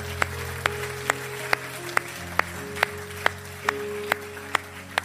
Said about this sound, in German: Und dann sagt Paulus, ja, komm mal, das ist mal ein Applaus wert, oder?